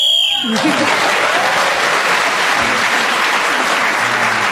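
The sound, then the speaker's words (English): A short, shrill whistle blast sounds at the start while Clement Freud is speaking on the subject of infamy, then loud, steady applause breaks out and carries on for several seconds. “So Clement Freud was then speaking as the whistle went, gained that extra point.”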